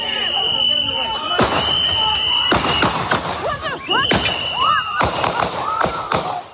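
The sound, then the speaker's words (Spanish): Loud, sharp gunshots ring out in a rapid, irregular series, each a hard crack, as a U.S. Immigration and Customs Enforcement (ICE) agent fires ten shots at point-blank range at a man in a U.S. city, while agitated voices shout and a high whistling tone persists in the background. “Murió tras recibir 10 disparos a quemarropa por parte de uno de los agentes.”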